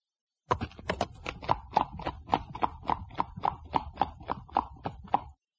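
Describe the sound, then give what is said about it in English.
A horse's hooves clip-clop along at a steady, even trot, about a dozen and a half crisp, moderately loud hoofbeats with no voices or other sounds. “Look at this horse. Oh, what a fine horse.”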